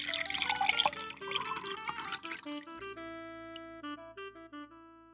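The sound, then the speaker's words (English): A drink being poured into a glass, a splashy gurgle whose pitch rises as it fills for a couple of seconds, then gives way to soft, ringing bell-like tones. No one speaks. “He got up and went to pour another drink.”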